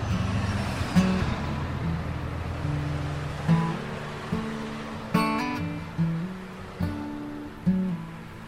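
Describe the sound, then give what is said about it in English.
Street traffic on wet pavement at a bus stop on a gray, drizzly morning: a steady tire hiss and low engine drone, with several sharper passing swooshes and thumps at intervals, and no one talking. “I have to say it's not the nicest day to be taking the bus. It's gray and drizzly.”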